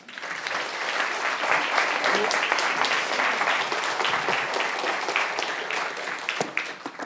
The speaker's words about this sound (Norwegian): Gi ham en varm applaus.